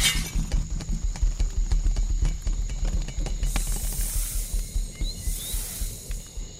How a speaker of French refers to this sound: Pris de panique à la vue de la petite souris, l'éléphant part en trombe et casse la couronne.